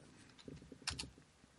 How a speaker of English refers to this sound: Google faster! I'm Googling. You can hear the keyboard.